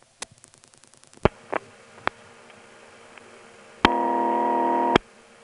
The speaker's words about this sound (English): So, did you, by the way, notice that funny ring that we heard, dialing operator? That's the ring of the Wilson step.